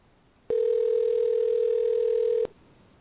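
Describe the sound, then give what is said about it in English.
A single steady electronic ringback tone from an outgoing phone call, a mid-pitched buzzing hum lasting about two seconds that starts and stops abruptly over faint line hiss, with no voices. “Okay, phone's ringing.”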